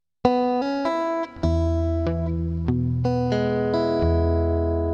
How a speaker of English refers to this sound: We're starting off with the second string open, followed by a hammer-on onto the second fret. Then we'll go and grab an E chord because this song is in the key of E.